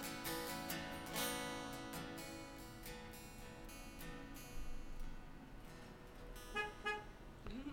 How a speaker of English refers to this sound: That horn honking was for you, by the way.